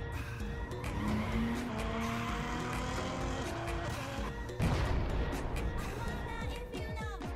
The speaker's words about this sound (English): Oh, dude! I just totally blew my tires!